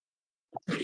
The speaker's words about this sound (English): You have to start out like, if I say I want, excuse me, one second. I just got to clear my throat.